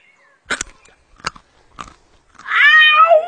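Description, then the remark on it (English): Tigger takes three loud, crisp crunching bites of a thistle spaced about a second apart, then gives a strained, wavering high-pitched yowl that bends upward and trails off. “Your friend appears to have bitten on a bee.”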